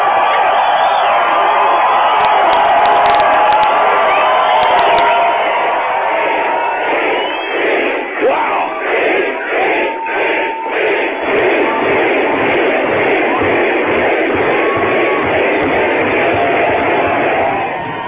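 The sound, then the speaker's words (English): A large crowd screams and cheers continuously, a loud, dense roar of many voices with rhythmic surges in the middle, sustained throughout with no clear individual speech. “I said all I heard was, and I heard a bunch of crowd screaming.”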